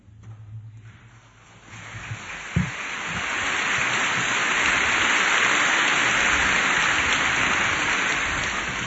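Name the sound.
audience applause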